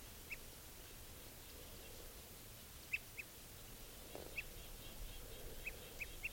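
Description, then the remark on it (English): Type 2 crossbill alarm calls and toots from a bird in a tree right above a net: scattered short, sharp call notes, about seven over several seconds, some in quick pairs, heard fairly faintly against steady outdoor hiss. “Giving alarms and toots now.”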